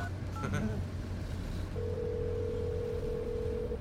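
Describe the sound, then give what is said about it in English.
A cell phone dialing: a quick burst of keypad tones, then a steady, sustained ringing tone on the line, over a low background rumble with no one talking. “You got your cell phone. Call him.”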